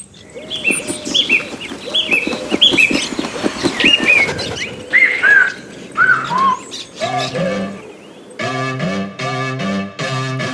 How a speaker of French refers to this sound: Je vous laisse donc maintenant avec la musique … de ….